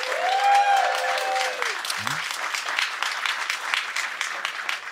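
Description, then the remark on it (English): An audience claps steadily for about five seconds, a dense rattle of many hands, voting by applause for 'no, wokeness is not killing comedy'. A brief raised voice or cheer rings out near the start. “Now clap if you think, no, wokeness is not killing comedy.”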